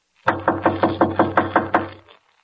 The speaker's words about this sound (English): If he's home, why doesn't he answer? Here, I'll knock again.